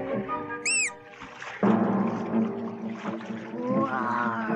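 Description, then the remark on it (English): A child's voice imitates a sea monster attacking a ship: a brief high squeal, then a loud, sustained, wavering growl that fills most of the moment. “Roar. Roar. I'm a sea monster attacking a ship.”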